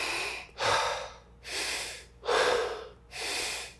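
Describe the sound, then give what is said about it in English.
A series of strong, forceful warrior breaths, roughly four to five in a steady rhythm, each a loud, rushing burst of air through nose and mouth at the same time, with short pauses between. “This is three of the warrior breaths.”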